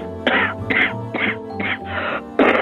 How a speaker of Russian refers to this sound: Я слышу, вы кашляете.